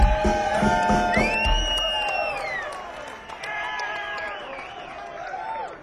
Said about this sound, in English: loudest round of applause on lead guitar.